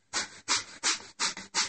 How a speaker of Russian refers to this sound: Мы ложимся на спину, руками фиксируем таз. И вот в этом положении, в лодочке, с открытыми глазами, дышим вот этим дыханием огня.